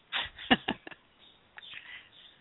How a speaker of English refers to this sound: I can hear there's a little beautiful bird behind you. Yes, there are birdies. I love birdies.